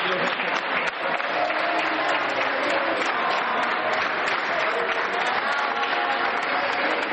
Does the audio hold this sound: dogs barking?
no